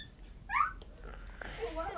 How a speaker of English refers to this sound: Sound like the dog. She's pointing the jar of sweets. Yes, that's what she's doing.